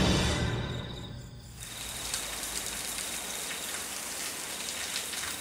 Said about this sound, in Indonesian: Walah, hujan toh iki.